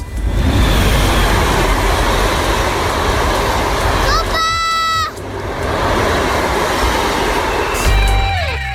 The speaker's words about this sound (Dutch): En ze zijn niet de enige kinderen die enthousiast kunnen worden van een trein. Papa! Ja? Ik zie nog een trein!